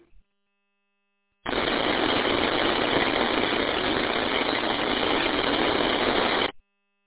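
A burst of radio static during a radio net check-in at night: a steady, even hiss that switches on abruptly, holds for about five seconds, then cuts off cleanly, with no voice coming through.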